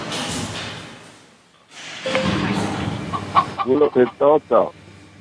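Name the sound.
chicken clucking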